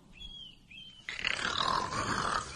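A thin, high bird-like chirp gives way to a loud, rough roaring snarl from a leopard that swells and rasps for over a second without any talking.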